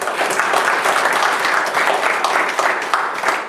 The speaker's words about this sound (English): The Lord will have applause.